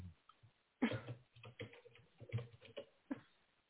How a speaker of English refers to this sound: Are you typing away? That was me. I was trying to find what I was referencing.